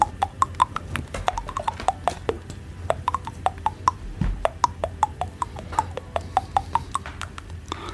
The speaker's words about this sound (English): Can you hear this tune? Yeah, on your teeth. Yeah. Can you recognise the tune?